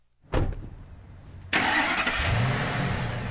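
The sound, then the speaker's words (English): A Ford F-350 dually pickup truck engine, on a truck that tows an enclosed two-car trailer for an auto transport business, cranks with a short burst, then catches and roars into a loud, steady, rumbling run with a broad hiss on top. No one speaks. “25-year-old Edward Young spends a lot of time in his Ford truck. It's an F-350 dually that tows an enclosed two-car trailer.”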